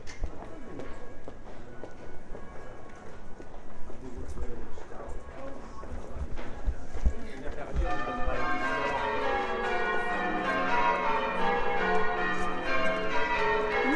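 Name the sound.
church bells ringing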